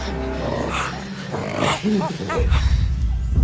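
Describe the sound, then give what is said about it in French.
Chimpanzee calls in Uganda: a series of rising, hooting cries that build toward the middle, loud, over a rumbling background and rustling noise. “Sabrina Krief nous emmène sur la piste des chimpanzés en Ouganda cet après-midi sur France Inter.”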